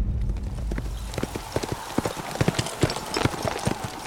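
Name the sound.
horses' hooves clip-clopping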